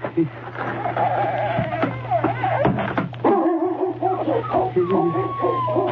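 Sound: dog barking and whimpering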